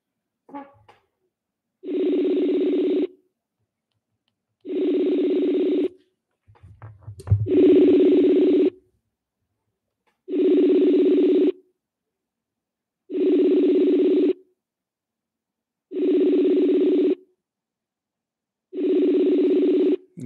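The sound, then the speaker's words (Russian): A telephone call being placed to Ksenia Larina: seven steady, evenly spaced tones, each about a second long and all at the same pitch, with a brief low rumble between two of them and no talking. “Включаю и набираю Ксению Ларину, потому что с ней я могу поговорить по этому поводу.”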